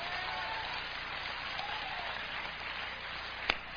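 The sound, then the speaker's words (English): A conference audience breaks into steady, sustained applause during a sermon, a dense wash of many hands clapping at an even level, with one sharper clap standing out near the end. “You should clap right there.”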